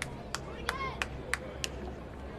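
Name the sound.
ballpark crowd applause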